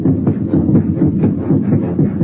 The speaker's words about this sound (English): It's your heart, of course, that you hear, stepping up its cadence, pounding under the forced draft of fear. Now you can see nothing, remember nothing, sense nothing but the strangling, suffocating beat of your own heart, throbbing its final protest.